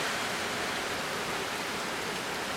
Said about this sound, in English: I'm definitely going to use one of those bad boys, but even with that, oh my god, there's just so much rain.